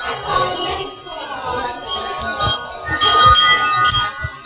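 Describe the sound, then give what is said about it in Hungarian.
Small bells ring steadily throughout in the dark to help people find their way, their bright, overlapping chimes clinking together, with soft low thuds of movement underneath. “Ezek a közben hallható harangok is a közlekedés segítik a sötétben.”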